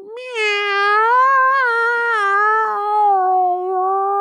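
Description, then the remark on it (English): A person imitates a cat with one long, drawn-out, loud meow, its pitch wavering up and down before trailing off, with no other sounds around it. “Here's a cat sound I make.”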